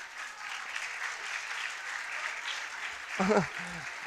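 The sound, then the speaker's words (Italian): An audience claps steadily in a dense, even wash of applause, with a brief voice cutting in near the end. “Era un applauso perché ho detto una cosa bella o che vi piace o per dire a corsa?”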